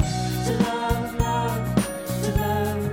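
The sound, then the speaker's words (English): Bright glockenspiel tinkling over a steady musical backing, with ringing metallic notes struck in a regular rhythm, each chime sustaining briefly before the next. “Oh, I love the tingly bell. The old glockenspiel.”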